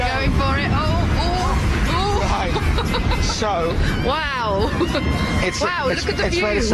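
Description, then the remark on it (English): Loud, steady wind roars and buffets the microphone on a rooftop without letup, a constant rumbling wash with voices talking underneath, partly buried in the gusts. “It's very windy. Windy, so windy that they closed at one corner of it because it's that windy.”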